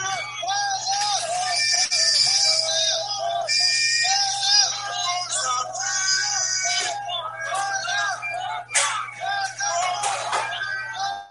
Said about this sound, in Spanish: Este es el momento que hemos llegado aquí en Málaga. Ya dentro de un rato va a haber el salvamento para venir a recogernos en el mar. La gente está gritando de contento. Todo el mundo está contentísimo, ¿no?